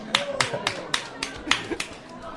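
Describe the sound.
A short burst of clapping in a steady, even beat, about seven sharp claps over two seconds at moderate loudness, with faint voices murmuring underneath.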